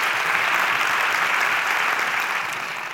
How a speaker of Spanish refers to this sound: Este fuerte aplauso.